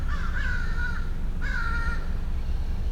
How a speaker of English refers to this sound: So this appears to be a group of American crows, about five or six American crows, and possibly two fish crows.